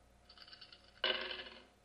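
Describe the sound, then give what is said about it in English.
A synthetic dice-roll effect from a 1997 computer dice utility rolling a number from 1 to 28: a soft rattling clatter, then a louder burst of rattling tumbling that fades away over about a second, heard alone with no talking. The roll comes up 9. “Wow, nice little sound effect. That rolled a 9”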